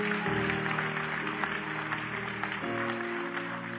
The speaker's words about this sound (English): Let's give these folks a big, big hand clap as they're coming.